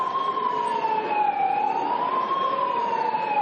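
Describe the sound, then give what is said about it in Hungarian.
Several LMP politicians sound a siren wail through megaphones in the Hungarian parliament chamber during a vote, its pitch slowly sliding down and back up in a continuous, loud, slightly harsh tone without pause. “Alig, hogy elkezdődött azonban a voksolás, több LMP-s politikus megafonnal szirénázni kezdett az ülésteremben.”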